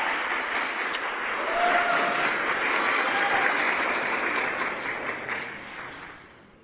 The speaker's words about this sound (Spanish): Y pido un aplauso para las juventudes tan talentosas con las que estoy compartiendo espacio. Gracias.